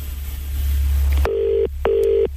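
A stretch of line hiss and low hum gives way to a phone ringing out on the line as a radio presenter calls a co-worker's mother: two steady buzzing ring tones in quick succession, clear, with no one talking.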